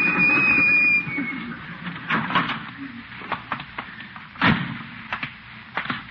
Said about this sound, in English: Slammed the door on my tail. Didn't even feel it.